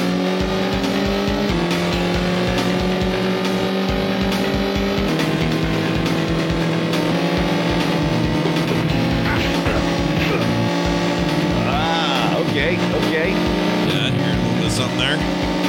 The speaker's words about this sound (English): Yeah, I was thinking racing game at first, but then I start hearing the punches. I'm gonna have to go with like a Road Rash.